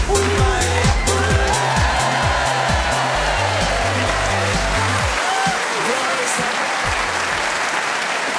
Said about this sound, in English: Tony Hawk singing with the audience here in Canterbury desperately trying to drown out the sound with clapping.